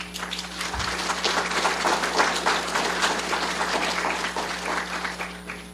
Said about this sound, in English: Another round of applause for all the speakers this morning. Great job.